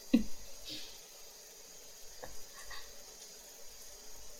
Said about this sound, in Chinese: 小狼，别舔了，不是不舒服，舒服是舒服，但是我怕你